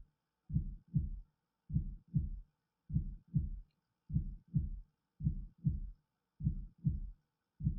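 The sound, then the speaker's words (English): A strong, steady heartbeat on a vitals monitor thumps in low, muffled double beats, with about six lub-dub pairs repeating evenly, clear with silence between them and no voices. “Very good. Yes, nice strong heartbeats.”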